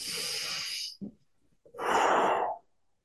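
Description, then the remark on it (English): A slow, audible inhale through the nose as the hands move up along the torso to the chest, followed after a short pause by a longer, louder exhale as the fists push out in front, during a breathing exercise with no talking. “Inhale and slowly move your hands up along the sides of your torso until you arrive at your chest. Then push your fists out in front of you as you exhale.”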